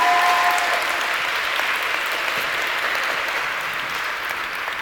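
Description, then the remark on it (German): Steady, dense applause from a large audience for the technical crew, loud and sustained throughout, with many hands clapping at once and a faint tonal hum at the very start before the clapping fills everything. “Danke an die Technik, die das alles möglich macht. Mal Applaus, ja, sehr gut.”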